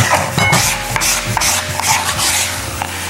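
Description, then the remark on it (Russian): Food is scraped into a plate with a utensil in repeated rough rubbing strokes, fairly loud, with scratchy bursts about every half second and no talking. “в тарелку все переложу.”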